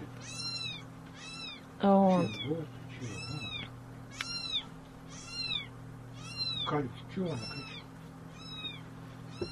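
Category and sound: animal, small kitten meowing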